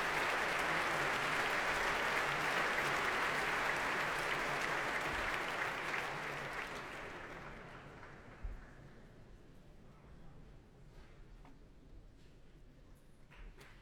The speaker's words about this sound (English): And here comes David Robertson, bringing the orchestra to their feet to accept the applause of the crowd here at the Royal Albert Hall and to perform the first piece on tonight's programme, Isabella by Frank Bridge.